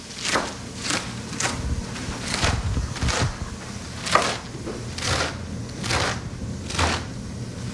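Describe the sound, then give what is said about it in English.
A knife chops lettuce into bite-sized pieces for a soup on a cutting board in a steady, unhurried rhythm, with about a dozen crisp thuds against a quiet background. No one speaks. “I'm just chopping the lettuce pieces into bite-sized pieces.”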